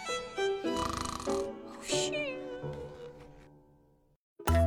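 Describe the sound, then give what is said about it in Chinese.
A voice imitates exaggerated, cartoonish snoring in one long, wavering, nasal rumble that slowly fades, followed by a brief silence and a short, loud burst of sound. “” 说完，他真的打起了呼噜。”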